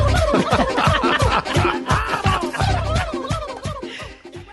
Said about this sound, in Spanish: Esta canción nueva, ¿en tu opinión de qué habla? ¿Cómo que llegó el pavo? El pavoroso. Es un villancico, ¿no? ¿Llegó el pavo? ¿Es para Navidad?